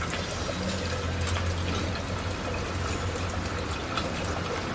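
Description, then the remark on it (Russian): Water pours steadily and without pause from a sculptural fountain group, a dense, even rush with a low hum underneath, fairly loud, with no voices. “Водичка льется и льется и льется.”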